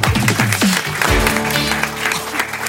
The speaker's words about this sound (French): Alors applaudissements pour la surdouée Adeline Dieudonné.